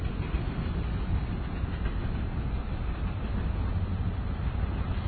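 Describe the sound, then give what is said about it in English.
A diesel freight train hauled by two diesel locomotives and carrying empty garbage containers rumbles steadily past at close range, heavy low-frequency roar with faint clickety-clack of wheels on rail joints, loud and continuous with no voices. “Only two diesels hauling this thing, so it can't be that big.”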